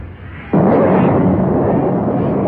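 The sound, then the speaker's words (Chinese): After a quiet, hissing start, lightning from the sky strikes and fells a big tree in a forest with a sudden loud crack, then a heavy, continuous roaring rumble and crackle holds steady for about two seconds, with no voices. “闪电从天空劈了下来，打倒了森林里的一棵大树，接着树就着火了”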